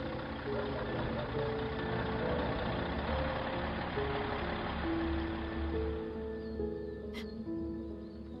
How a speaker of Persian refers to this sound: صدای موتورشو میشنیدم. انگار همه چی ساکت و ساکت‌تر شد، به جز موتور وانت که صداش بلندتر و بلندتر شد تا اینکه تنها چیزی که میشنیدم صدای موتور بود.